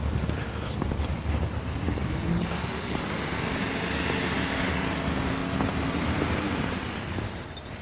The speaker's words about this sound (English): Here comes a trash truck.